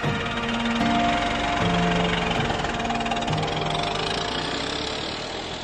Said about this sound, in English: Well, he fixed that with an axe and got his car started and coaxed its two-cylinder engine into life and drove off into his future and ours.